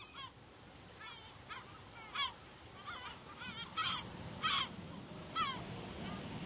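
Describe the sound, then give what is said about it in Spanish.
A dense coastal colony of thousands of seabirds calls over a steady wash of background noise, harsh honking cries overlapping and rising in bursts, some loud, others softer. “Al formar colonias de miles de ejemplares, estas mismas aves marinas contribuyen a la fertilización de las aguas, dejando caer en ellas sus excrementos ricos en nitrógeno.”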